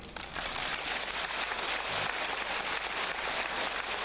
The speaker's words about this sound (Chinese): 哎，鼓掌还不稀奇啊，我当场放给你们听好不好啊。